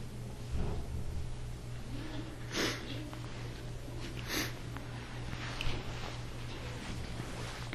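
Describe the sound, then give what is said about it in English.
A couple of short, breathy sniffs through a congested nose from a person with a head cold, spaced a second or two apart, over a steady low background hum. “I just sniff. I still have a cold.”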